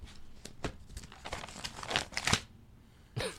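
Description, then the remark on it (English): A sheet of paper that someone is reading from rustles and crinkles in a run of irregular crisp bursts, building to a louder flurry, pausing briefly, then ending with one more sharp crinkle. “Gotta let them know I'm reading off an actual piece of paper, dude.”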